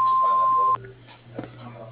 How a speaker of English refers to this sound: If you would kindly leave your name, phone number, and short message at the sound of the beep, I'll get back to you as soon as I can.